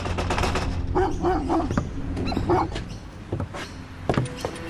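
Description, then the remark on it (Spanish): Dogs bark in a string of sharp, irregular bursts over a steady background rumble, loud, with a few shorter yips near the end and no one talking. “Sus tres primeros intentos no resultan, porque hay vecinos vigilando o perros ladrando.”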